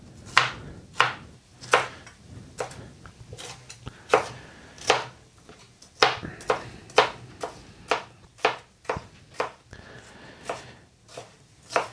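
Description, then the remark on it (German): A knife dices a red bell pepper into cubes on a cutting board in a steady run of sharp, crisp chops, about two per second with slight pauses, over a faint low hum and no talking. “Und jetzt Würfel.”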